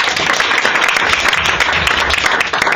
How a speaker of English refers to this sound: And the final person formally arguing against the motion from Queen Elizabeth, a big round of applause for